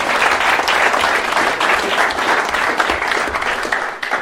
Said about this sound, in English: give her a round of applause for all the food she does